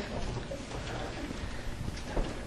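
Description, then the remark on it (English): Soft, steady rustling of many pages being turned at once as people turn to John 15, a papery shuffle with scattered small flicks and no voices, fairly quiet throughout. “I still hear pages turning.”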